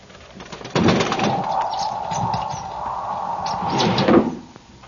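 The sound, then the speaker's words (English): A bird flutters and flaps against a window at night, in two close, scrabbling bursts, one near the start and one near the end, over a steady whistling hum of wind. “It was a bird. What kind, I could not tell. The wind must have driven it to shelter on the sill.”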